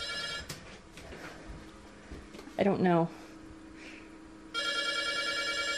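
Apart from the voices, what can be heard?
telephone ringing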